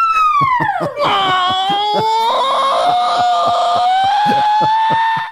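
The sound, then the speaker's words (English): A loud, piercing scream swoops downward and then holds in a long wavering wail, set over a steady pounding beat in a short musical jingle introducing the Daily Wire mailbag segment. “That's why we got that scream in there.”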